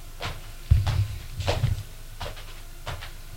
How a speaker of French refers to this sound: L'homme frappe à une porte.